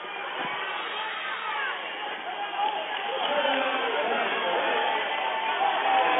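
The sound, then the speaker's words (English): Steady, dense crowd noise from spectators at a basketball game, a continuous murmur of many voices with scattered shouts, swelling slightly louder toward the end. “Well, good thing we have crowd noise to keep you over here.”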